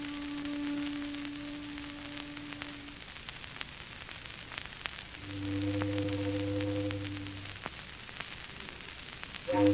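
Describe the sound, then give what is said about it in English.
A mournful foghorn sounds in thick pea-souper fog over London, two long, steady blasts, the first mid-pitched and the second deeper and louder, with a third just starting at the end, all over a constant crackling hiss. “Foghorns always have to sound so mournful.”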